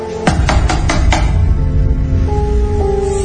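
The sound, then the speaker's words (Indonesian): Five quick, evenly spaced knocks on a bedroom door, sharp and fairly loud, over a steady low musical drone that carries on after the knocking stops. “Aku mendengar seperti ada yang mengetuk pintu kamarku.”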